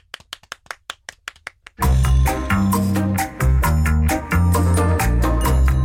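A quick run of about eight evenly spaced claps, getting slightly faster, then loud music with a heavy bass line bursts in and carries on with no voices.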